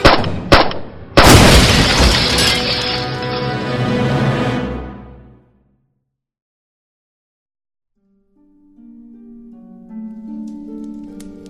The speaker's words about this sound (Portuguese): Dá tempo só do Tim se agachar e tentar se proteger da explosão.